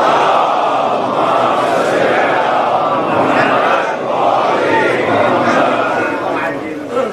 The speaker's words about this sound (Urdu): اب اس کی تشریح میں کروں یا بس آپ ایک درود پڑھ دیں گے؟